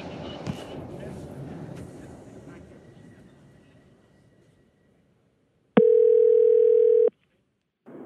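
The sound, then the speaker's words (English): A telephone ringback tone sounds loudly on the line as a phone call is placed, one steady electronic burst followed by a pause before the next ring begins, after a stretch of fading low rumble. “Hours later, I called Jenny to check in and ask how it had been seeing her kids.”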